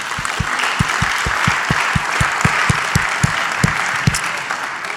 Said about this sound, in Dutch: Kom op, geef God een applaus.